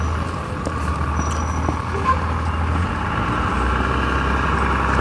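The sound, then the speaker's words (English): A school bus engine rumbles, a steady low idling drone with a broad, even wash of mechanical noise that holds at a constant loudness throughout. “Well, not that late, there's a school bus.”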